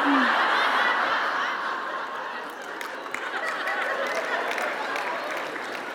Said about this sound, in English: I can't wait to tell him it got applause today. That's going to be great.